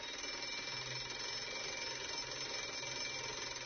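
A shrill electric school bell rings in the preschool class of the Ražana branch of Mito Igumanović primary school, Kosjerić, continuously for several seconds at an even, unbroken level, its rapid metallic clatter steady from start to finish with no voices.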